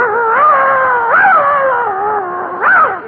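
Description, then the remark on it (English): A dog whines in a long, unbroken, wavering cry, its pitch sliding up and dipping down several times over three seconds, fairly loud with no talking. “Will your dog bite me?”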